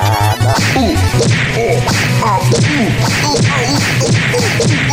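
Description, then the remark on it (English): A rapid, loud flurry of punching and kicking impacts, thwacks and swishes landing one after another as frogs punch and kick a person, over a steady low hum, with no clear talking. “They're punching and kicking me!”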